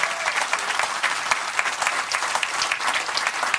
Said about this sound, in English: Let us applaud them today, friends.